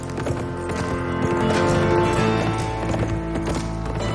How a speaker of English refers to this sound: Later, he rides his horse past a row of trees, slowing as he looks around. He taps the horse with his boots, who speeds up and trots forward down the snow-covered trail.